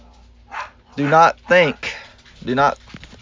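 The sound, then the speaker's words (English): A dog that has come running in lets out a quick run of whiny barks and whimpers, four short pitched yelps in uneven succession, fairly loud. “My dog came running in here, so so it may be a little break here.”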